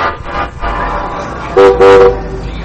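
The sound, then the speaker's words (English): A train horn sounds twice in quick succession as a train bound for Nashville, Tennessee arrives at the station, two steady mid-pitched blasts rising over a low rumbling background of engine and station noise, with no talking. “Ah, there's your train now.”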